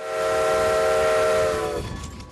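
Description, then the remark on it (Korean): A steam locomotive's whistle blows in one long, loud, steady blast, its layered tones cutting off sharply near the end, leaving the rumble of the train beneath. It is an early 20th-century steam train with wooden carriages on the Strasburg railroad, running a 7 km, 45-minute tourist ride. “스트레스버그 역의 관리자인 스티브 베럴 씨는 나무로 만든 객실이 달린 증기기관차들이 현재 운행되고 있다며 45분간 추억의 시골 기차 여행을 할 수 있다고 설명했습니다.”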